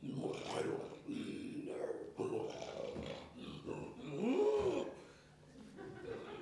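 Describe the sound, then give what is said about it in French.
A person imitates a lion's roar with a series of growly, rising-and-falling vocal bursts, fairly loud, with a bit of chuckling mixed in. “Wow. Un lion.”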